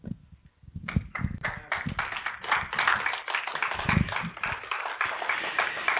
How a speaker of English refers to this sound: Well, let's give the women another good round of applause. That was awesome, wasn't it? That was awesome.